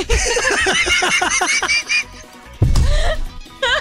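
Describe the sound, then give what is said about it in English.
A person mimics a honking bird with a quick series of nasal, goose-like honks, then a louder squawk and a short final call. “Nope, do it as the bird.”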